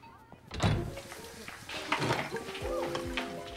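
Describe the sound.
A heavy door swings and lands with a loud, low thump, followed by softer shuffling knocks, while voices murmur underneath.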